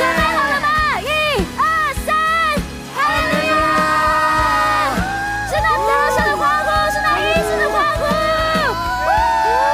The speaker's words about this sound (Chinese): 主啊，再给神一个最大的欢呼，因为他已经施行奇妙大能在我们当中了。